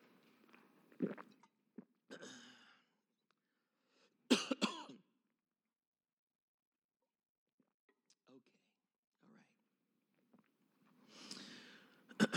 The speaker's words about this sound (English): Nothing like having a coughing fit just before you have to preach. Let's see if I can get rid of this here.